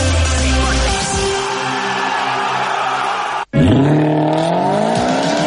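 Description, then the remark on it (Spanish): A car engine roars loudly with rising harmonic whine, then tires squeal sharply after a brief cut, followed by renewed revving and sweeping engine tones. “¡Vaya cochazo! ¿Es nuevo?”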